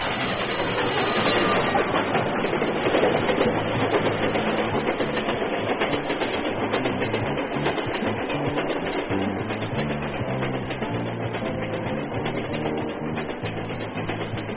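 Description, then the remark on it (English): A train rolls past at a railroad crossing, a loud, steady rumble with rhythmic clattering of wheels that fills the whole stretch without letting up. No one speaks. “You've stood at that crossing and watched that train pass, or you've seen it in motion pictures or television.”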